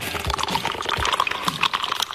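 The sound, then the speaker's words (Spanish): A person falls into a swimming pool with a splash, followed by about two seconds of churning, sloshing water and bubbling, with no one speaking. “Te dije, cuidado con la piscina porque te va a caer al agua.”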